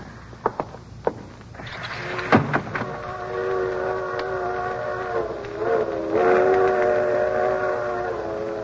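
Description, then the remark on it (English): A freight train's whistle sounds outside, a long steady harmonic blast that swells and shifts slightly in pitch, preceded by a few sharp clanks and knocks, with no voices. “Hear that, Iris? Freight train.”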